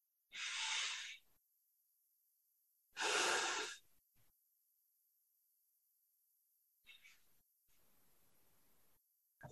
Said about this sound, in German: Atme durch die Nase, in den Bauch. Noch 2, 3 Mal. Ganz in deinem Tempo.